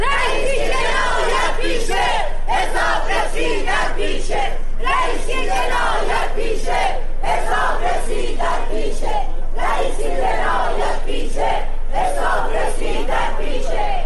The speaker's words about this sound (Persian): همزمان با برگزاری دادگاه، بسیاری از شاکیان پرونده و خانواده قربانیان کشتارهای دهه 60 با در دست داشتن پرچم‌ها یا تصاویر قربانیان در مقابل دادگاه تجمع کردند و شعارهایی از جمله علیه ابراهیم رئیسی سر دادند.